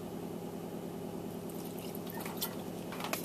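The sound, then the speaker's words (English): Roughly 3 tablespoons of milk trickle quietly into a bowl, a soft liquid splash with a few drips near the end, over a steady low background hum. No one speaks. “Now pour in roughly 3 tablespoons of milk”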